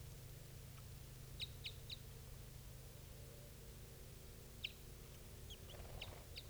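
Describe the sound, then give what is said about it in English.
A female bird, not the mated pair's female, calls with short, high chirps: a quick run of three, then a pause and a further scattered series, all fairly faint over a steady low rumble and hiss. “That one female's calling now.”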